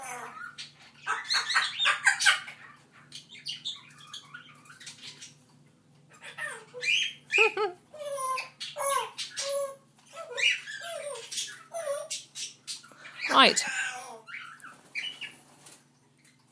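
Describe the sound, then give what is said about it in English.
Birds chirp and squawk in busy, irregular bursts, with sharp harsh calls and quick tweets, loudest near the start and end, over a low steady hum; a brief word is spoken. “I think that's it from me and the birds for now.”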